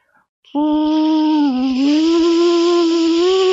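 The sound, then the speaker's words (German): A voice imitates a hair dryer at a hairdresser's, with a steady buzzing hum and breathy hiss, sustained for about three seconds with a slight wavering in pitch and no talking. “Auf jeden Fall den Föhn.”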